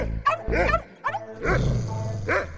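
Three black dogs at a street corner bark in short, irregular bursts, the yaps overlapping and fairly loud, with no one talking over them.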